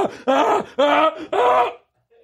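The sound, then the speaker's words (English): A man vocally imitates a sneeze as three loud, drawn-out voiced bursts in quick succession, each with a tonal, bending pitch, followed by a brief silence. “When I sneeze, nigga, this is what it sound like.”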